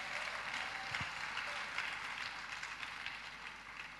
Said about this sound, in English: Help me clap for Jesus.